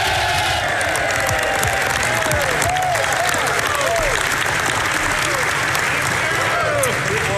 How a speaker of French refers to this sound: Il était allé en partiel pour être réélu. Et là, il revenait enfin à Ottawa, en fait, au Parlement canadien. On écoute la vague, en fait, l'applaudissement qui l'a accueilli.